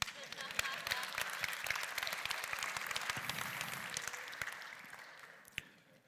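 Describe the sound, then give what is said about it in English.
An audience breaks into steady applause, a dense patter of many hands clapping at once that holds evenly and then thins out toward the end, with one sharp clap standing out near the close. “I didn't hear anybody applaud to that one.”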